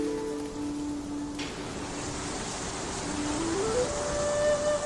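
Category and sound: nature, rain falling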